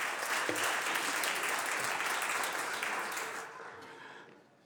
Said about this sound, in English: I just want to take this opportunity to wish a happy birthday to Senator Hurtado. Senator Durazo. Senator Durazo, who celebrated her birthday yesterday. Let's give her a round of applause for her birthday.